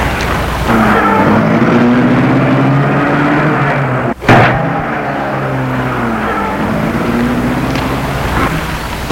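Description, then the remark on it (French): A car engine is started and runs steadily, its drone rising in pitch as it accelerates, with a brief sharp break midway before the engine noise carries on. “Et le commissaire met la voiture en route.”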